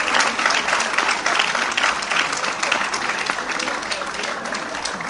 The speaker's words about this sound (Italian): Eccoli che si avvicinano e hanno questo grandissimo cuore gonfio d'amore per tutti noi. Eccoli, un applauso.